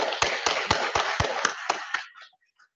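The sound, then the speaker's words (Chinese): Steady, forceful clapping at a church welcoming a new preacher, in an even rhythm, about eight sharp claps roughly a quarter-second apart, then a few faint scattered sounds as it fades out. No talking. “我啲鼓掌好有力嘅，大家学下我咁啦，预备起。”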